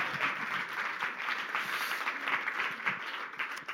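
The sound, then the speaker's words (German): An audience at Equippers Berlin claps steadily to welcome people, many hands creating a dense, even wash of applause that holds at a constant level for a few seconds with no voices on top. “Ihr dürft kommen, in einer klatschen, klatschen wir alle, lassen die Leute nicht im Stich.”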